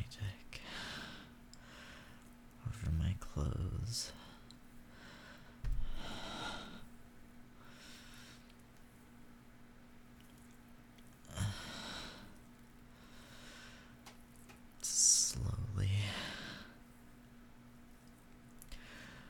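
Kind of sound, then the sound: human body sound, ragged breathing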